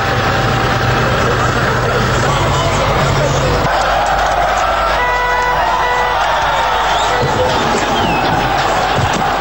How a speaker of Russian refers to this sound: Как можно услышать на архивной записи, снос установленного в 1951 году памятника проходит под аплодисменты собравшихся.